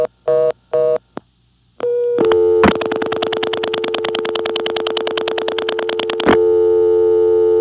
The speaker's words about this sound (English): That was a composite using the real no-test clicks that we recorded from long distance when we broke into non-working numbers.